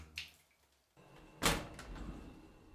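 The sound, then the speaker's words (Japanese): A bathroom door opens with a light click, then a louder sliding thud about a second later, followed by a steady hiss of room noise, with no voices. “風呂場のドアを開き、脱衣所に置いてあった携帯を彼は手にした。”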